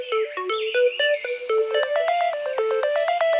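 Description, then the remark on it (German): A renewed alarm clock that can play all kinds of ringtones plays a bright electronic ringtone, a quick, bouncy melody of short stepped tones, steady and fairly loud, with no voices. “Vicky ließ ihren Wecker rund erneuern und kann nun Klingeltöne aller Art abspielen.”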